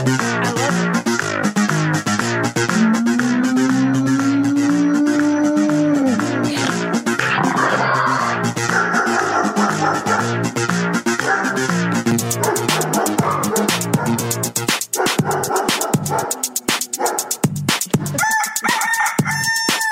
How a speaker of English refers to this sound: I've written one song in my life. It is Animal Song. Okay, here it is. Maybe two songs in my life. Here's my Animal Song, and you guys tell me who makes a worse song, me or ….